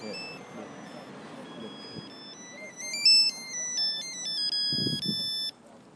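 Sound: phone ringtone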